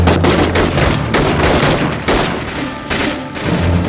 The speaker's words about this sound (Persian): از اینجا نمیتونیم بزنیمشون، باید برم اون طرف. میبندمشون به رگبار.